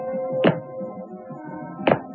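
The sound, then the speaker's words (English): Two heavy mechanical footsteps of a robot in an assembly shop land about a second and a half apart, each a sharp clanking thud, over a steady low machine hum with faint whining tones. “In the assembly shop, Emma stopped her investigations when she heard the familiar sound of the robot's footsteps.”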